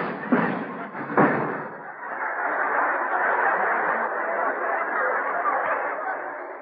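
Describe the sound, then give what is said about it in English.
A crash of Groucho flying home by helicopter and coming through the roof on landing: two heavy thuds in quick succession, then a long, steady clatter and rumble of falling debris that carries on to the end, with no talking. “He's come through the roof again.”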